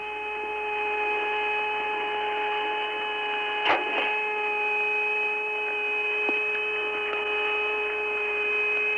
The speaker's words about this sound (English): you can't believe these thrusters in here. It sounds like somebody pounded on the side of a garbage can. The whole thing creaks and moans. It's not a dull thud like it is in a command module.